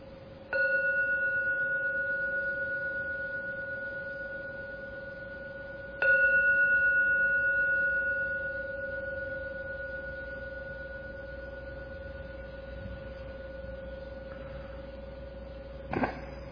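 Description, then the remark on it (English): A gong is struck three times, each stroke blooming into a steady, humming tone with bright overtones that rings on and slowly fades. The first two strikes are spaced apart; the third comes near the end. “I'll now ring the gong 3 times. Please listen to every sound from the gong.”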